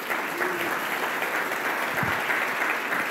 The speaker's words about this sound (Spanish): So, den un aplauso a Dios por sus vidas.